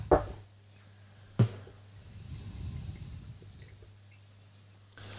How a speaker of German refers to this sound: Lass uns mal eben, ich gieße mir mal hier ein.